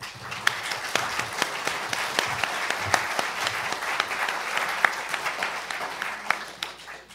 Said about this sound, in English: Thank you very much for your kind applause